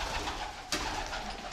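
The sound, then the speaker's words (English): A pigeon coos softly, with a short sharp flutter of wings partway through as it flies overhead above a derelict, unused building, Block D at Bletchley Park; no one speaks. “As you will hear from the pigeon flying over us, this building is now derelict and not in use, and is one of the buildings that in the long term we'd hope to bring back into use.”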